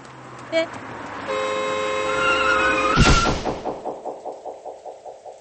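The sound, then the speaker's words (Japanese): A car horn blares steadily for nearly two seconds, then cuts off in a loud, sudden collision thud as a car hits a person running onto a crosswalk, throwing them about three meters, followed by a string of rhythmic, fading thumps. “横断歩道に駆け出した瞬間、車に轢かれて、私は3メートルほど吹っ飛んだ。”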